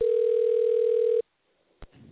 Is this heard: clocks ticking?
no